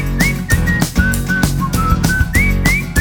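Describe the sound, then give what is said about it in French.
A bright, clear whistled melody rises and dips in short phrases over a steady backing of music with a firm beat, loud throughout. “Je sais siffler.”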